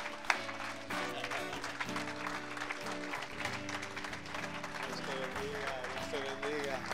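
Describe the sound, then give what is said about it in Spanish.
Steady, dense applause from a crowd, given for the Lord, rolls on for several seconds, mixed with sustained music chords underneath and some indistinct voices. “Y yo creo que se merece un aplauso el Señor, pero con ganas, dígase el Señor.”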